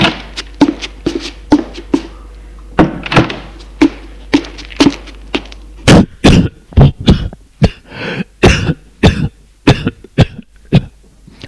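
A long run of repeated coughing and throat clearing from a man who has just drunk a glass of cognac, fairly loud, with short sharp bursts at first that grow harsher and more forceful partway through. No one speaks.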